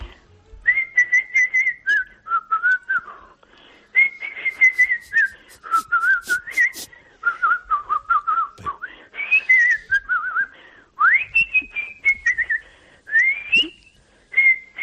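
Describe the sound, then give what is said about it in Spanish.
A person whistles a lively flute-like melody alone, imitating a txistu and a flute, with clear sustained tones and quick ornamented runs, fairly loud, phrasing in short bursts with brief pauses over about fifteen seconds. “Porque, por ejemplo, la mía, que es el saber silbar imitando al chisto y a la flauta, silbo un poquito, a ver.”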